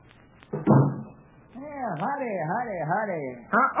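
The door of the Jotham-Down store in Pine Ridge bumps open with a short thud as someone enters, then a wavering squeak rises and falls for a couple of seconds before another bump at the end, moderately loud.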